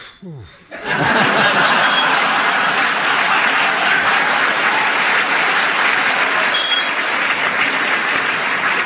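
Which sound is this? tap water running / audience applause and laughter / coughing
audience applause and laughter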